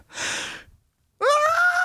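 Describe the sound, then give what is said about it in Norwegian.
A singer's clearly audible, breathy intake of air, followed by a short pause and then a sustained sung note that begins fairly loud. “Och så är det så kul att de inte klipper bort pustingen.”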